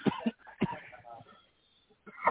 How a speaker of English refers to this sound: Coughing like what he's doing. Don't mind me.